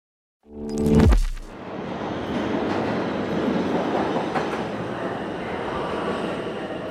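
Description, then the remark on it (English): A subway train rumbles through the 72nd Street subway station, opening with a brief tonal screech that drops in pitch, then a loud, steady roar of wheels and carriages, with no one talking. “I'm in the 72nd Street subway station, and I am walking to go see a fridge full of brains.”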